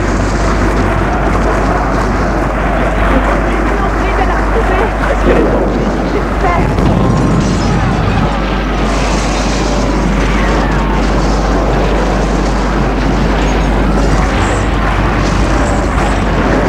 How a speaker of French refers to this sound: Ils sont entourés, poussés, le feu, la fumée, les explosions.